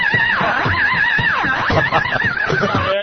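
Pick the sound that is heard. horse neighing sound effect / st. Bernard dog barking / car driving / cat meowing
horse neighing sound effect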